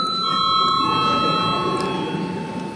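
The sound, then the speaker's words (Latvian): A parliament chamber bell, rung before a vote, sounds as a steady electric ring, a sustained metallic tone with bright overtones, over a low murmur of background noise throughout. “Lūdzu zvanu.”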